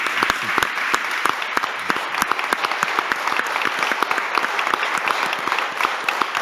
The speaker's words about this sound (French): Applaudissements